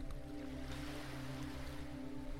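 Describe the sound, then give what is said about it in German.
Soft, steady wash of surf rolls on continuously, fairly quiet, blended with a low sustained humming drone beneath it. No one speaks. “Jede Welle gibt dir noch mehr Entspannung.”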